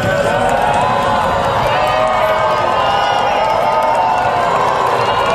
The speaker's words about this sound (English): They're booing the losers that are walking out. I think so, yeah.